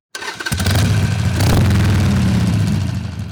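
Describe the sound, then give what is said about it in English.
The engine of Miguel Prats's Harley-Davidson motorcycle in Texas starts and revs up loudly, settling into a deep, throaty rumble with a burst of higher revving in the middle; no talking. “When Miguel Prats revs the engine of his Harley Davidson, it might sound angry to some, but not to him.”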